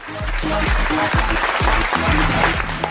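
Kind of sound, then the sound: crowd, sustained applause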